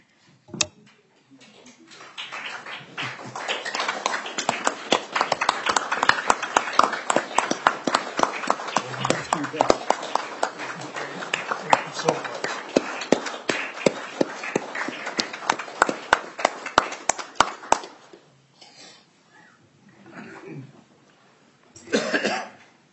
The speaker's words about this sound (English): I'm just wondering if we can break the rules and if we could stand and applaud. Would that be okay?